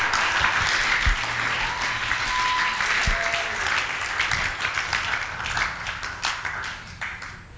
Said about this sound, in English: Oh, now the clapping is going down.